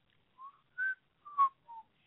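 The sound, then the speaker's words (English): A person whistles a short, wavering tune of five or six clear notes, each held briefly with small gaps between, moderately loud with no talking over it. “Are you fucking whistling on my show?”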